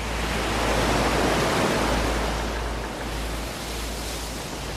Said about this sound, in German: Was geschieht hier? Das ist ein Sturm.